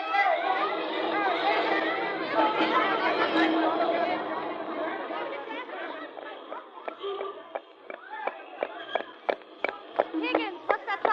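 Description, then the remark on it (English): A dense crowd chatters loudly in a steady babble, then the noise breaks into scattered shouts and sharp sporadic calls as the group seems to draw closer, a crowd that seems to be chasing somebody. “The crowd seems to be chasing somebody.”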